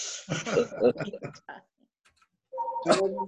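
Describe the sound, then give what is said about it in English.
A person talks briefly, then after a short pause a telephone starts ringing with a steady, tonal electronic ringtone that cuts in loudly at the end. “somebody got that phone.”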